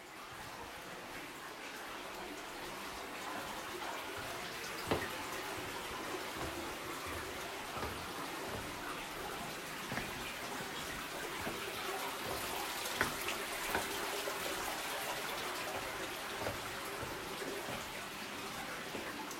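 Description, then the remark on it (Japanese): Steady, gentle trickling and splashing water from a slow-flowing stream inside a limestone cave fills the space continuously for the whole stretch, with a few sharper drips standing out, echoey, with no voices. “最初の水の音とはちょっと違うような、少し水の流れが緩やかになったような音が聞こえます。”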